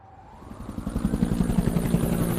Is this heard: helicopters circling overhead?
yes